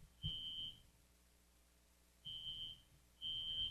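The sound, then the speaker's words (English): A building fire alarm blares in loud, sustained electronic tones around 8 o'clock in the morning, sounding three times with pauses of quiet in between, harsh and piercing with no one talking. “the fire alarm just seriously started going off about 30”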